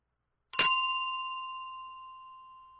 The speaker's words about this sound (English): Now I'm going to ring my bell and I'm going to try to make sure that it is not too loud. If you are wearing headphones, just a heads up.